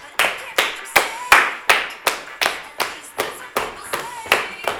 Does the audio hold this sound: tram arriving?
no